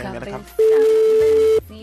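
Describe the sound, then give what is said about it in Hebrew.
A telephone ring sounds as one loud, steady, mid-pitched electronic tone lasting about a second, cutting in between stretches of talk with music underneath. “זה נקרא צלצול, רבותיי.”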